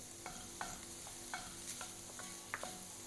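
Meat browns and sizzles steadily in a hot pan, a constant bright hiss broken by soft scraping and clinking as it's stirred every half second or so. No one speaks.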